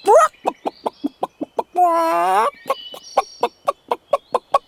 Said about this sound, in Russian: Ушел кот на охоту, а Петя-петушок все в избушке прибрал, пол чисто подмел, вскочил на жердочку, сидит, песни поет, кота ждет.